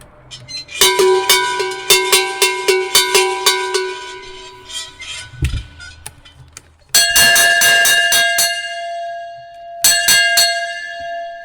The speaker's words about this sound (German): Was sind jetzt das für Gattungen Glocken, was wir jetzt da gekriegt haben? Also die erste, was du dazu geleitet hast, das ist eine Blechglocke, also eine Blechschelle. Und die zweite ist eine gegossene, wie man sagt, eine Speisglocke.